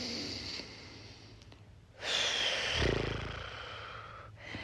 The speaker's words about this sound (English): Please stand up and just shake out the dust in your body for a moment. Deep breath in and out. Let it all go.